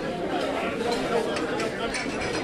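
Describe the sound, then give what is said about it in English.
A steady, loud wash of many overlapping voices chattering at a community meal in a basement, with occasional faint clinks and clatters of dishes and cutlery scattered through the murmur. “I really like the sound of the dishes, the cutlery, and the people talking.”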